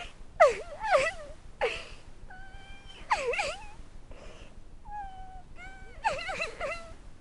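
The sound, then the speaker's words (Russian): Someone crying in a series of high, wavering, mournful wails, almost like a cat's meows, coming in repeated bursts with short pauses between them, clear with no talking. “Такое впечатление, что кто-то плачет.”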